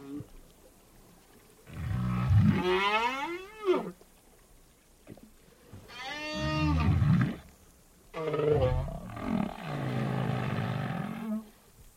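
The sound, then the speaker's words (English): Two whales, many miles apart, call back and forth in long, sweeping, moaning tones that rise and fall in pitch, three drawn-out phrases separated by short pauses, with no other sounds. “Well, these are the voices of two whales that my wife and I had been observing and following for many hours when they were many miles apart, and they were calling back and forth.”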